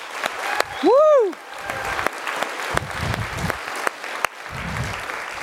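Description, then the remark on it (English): A large audience claps steadily and continuously for graduates, a dense wash of applause, with a single rising-and-falling whooping cheer near the start. “Let's give our graduates one big hand of applause.”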